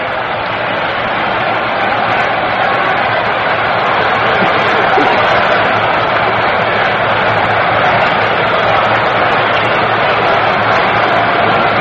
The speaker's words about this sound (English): Crowd that was very quiet a few moments ago is really starting to whip it up now.